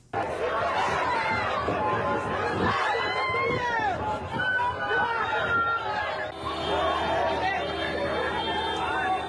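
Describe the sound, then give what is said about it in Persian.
A panicked crowd shouts and cries out moments after a bomb explosion at the Dehmazang intersection in Kabul, Afghanistan, many voices overlapping in a loud, continuous clamor, with higher wailing cries rising above the din throughout. “شما آواز و نعره‌های مردم را لحظات پس از وقوع انفجار در چهارراهی دیمزنگ کابل شنیدید که حداقل 80 کشته و بیش از 200 زخمی بر جا گذاشت.”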